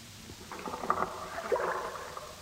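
Oarlocks creak as a Viking rowboat is rowed in a deep fjord in the coastal mountains of Greenland, a couple of wooden squeaks rising over a soft, steady wash of water, fairly quiet.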